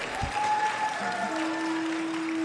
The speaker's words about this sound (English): And, you know, in 20 years, I'll take applause, by the way. It's early.